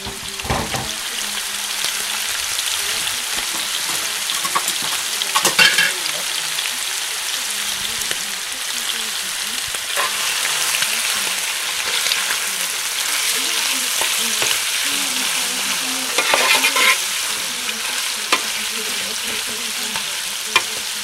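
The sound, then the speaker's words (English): Steady, crackling sizzle of shrimp frying in a hot pan, a dense hiss running throughout with occasional louder pops and spatters, with no talking. “I'm going to quickly dry the shrimp in. Then I'm going to add a little onion.”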